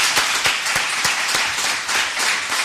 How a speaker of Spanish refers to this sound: Por cierto, seguimos acompañados. Sí, cuarto de la ESO. Así que venga, un aplauso también. Que se os escuche.